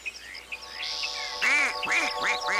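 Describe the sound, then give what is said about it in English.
A duck quacks about four times in quick succession, loud, following a second or so of faint chirping and whistly tones in the background. “Can you shoot that duck?”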